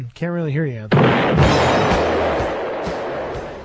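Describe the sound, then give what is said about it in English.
A loud explosion sound effect bursts in right after a brief line of speech from a caller, cutting it off, then rumbles and crackles as it slowly fades over a few seconds. “I had to blow somebody up.”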